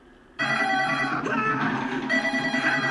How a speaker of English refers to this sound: Get the phone!